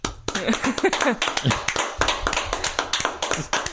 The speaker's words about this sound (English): Let's have another round of applause for the mysterious stranger.